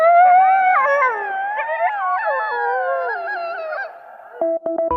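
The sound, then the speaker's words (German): A chorus of coyotes howls loudly, several wavering, overlapping voices sliding up and down with quick yips mixed in. It stops abruptly, followed by a few short, clipped tonal bursts. “Nur eins verrät die US Army nicht, ob die Kojotendrohnen auch so klingen wie die Vorbilder.”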